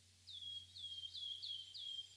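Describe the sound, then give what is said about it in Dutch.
A small bird sings a bright, repeated phrase of about five quick high chirps in a steady rhythm, fairly soft, over a faint low background hum. “Ondertussen hoor je allerlei verschillende vrolijke vogelgeluidjes.”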